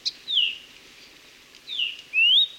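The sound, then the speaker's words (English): A kiwikiu (Maui parrotbill), a bird native to Maui, calls with a few clear, high whistled notes: a quick chip, then downward-sweeping and rising slurred whistles with short pauses between, against a quiet background. “Like many of Maui's native birds, kiwi-kiu have been devastated by avian malaria and other fatal diseases spread by invasive mosquitoes.”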